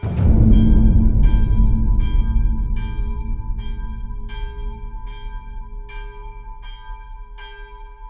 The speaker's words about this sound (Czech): Při zaznění poplašného zvonu na soudcově domě se venku brzy schromáždil dav lidí.